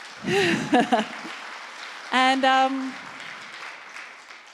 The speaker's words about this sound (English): He turned 60 this week. It's a good time to give him a round of applause.